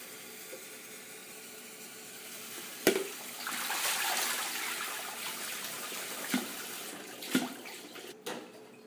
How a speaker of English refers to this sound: Here's a sponge. Yay. I'm going to spend some time washing this thing.